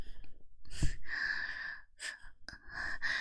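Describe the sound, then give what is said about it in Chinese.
A breathy rush of air blown out in a few long, big puffs, with short gaps and a soft click between them. No one speaks. “好凉，你吹这么大口气干嘛？”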